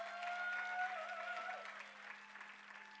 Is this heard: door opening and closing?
no